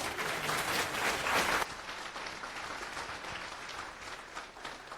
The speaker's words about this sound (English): Applause.